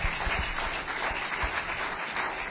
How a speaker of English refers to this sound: And can we all say amen and clap our hands in agreement today? Praise God.